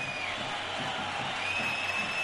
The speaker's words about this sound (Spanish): Pitos, algunos aplausos para Martial, división de opiniones.